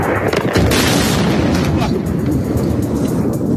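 Bomb explosions from the war in Iran during Holy Week rumble in a loud, continuous low roar, with a heavier burst of crackling noise early on that settles into a sustained deep, thundering boom.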